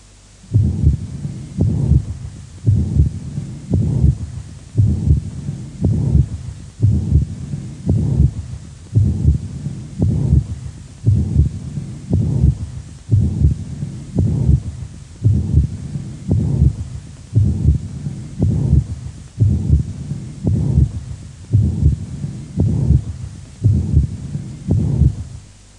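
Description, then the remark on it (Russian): A steady heartbeat repeats about once a second, each beat carrying a prolonged whooshing systolic murmur of tricuspid regurgitation in place of crisp clicks, with no speech throughout. “Прослушайте систолический шум прикуспидальной недостаточности.”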